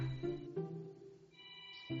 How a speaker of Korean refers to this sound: 알림. 아, 아침인가 봐요.